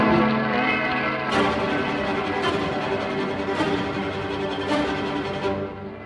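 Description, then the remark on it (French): Neighborhood church bells peal continuously, their strikes repeating about once a second over a dense, ringing wash of overlapping tones, loud and full throughout. “Vous entendez les cloches de notre quartier.”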